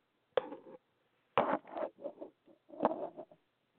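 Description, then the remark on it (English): A person blows their nose in several short, breathy honking bursts, a sharp blast followed by a longer series of sputtering, uneven snorts and wet rustles, with no talking. “I am actually going to blow my nose.”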